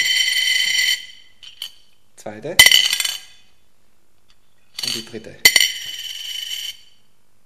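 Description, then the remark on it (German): Three coins, including a one-euro coin and a 10-cent coin, are dropped one after another onto a plate, each landing with a sharp metallic clink and a bright ringing tone that fades out. A voice speaks briefly between the drops. “Ratet mal, welche Münzen das waren.”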